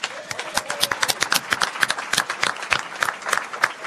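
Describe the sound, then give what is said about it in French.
An audience at a salon applauds the new president of Lourama steadily, a dense patter of many hands clapping, sustained throughout with no voices standing out. “On peut l'applaudir.”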